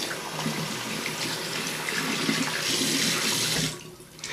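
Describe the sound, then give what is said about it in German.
Water runs steadily from a tap in a broad, hissing stream for about three and a half seconds to wet hair for washing, then cuts off abruptly, leaving a brief quiet tail. No one speaks. “Also, Wassermarsch.”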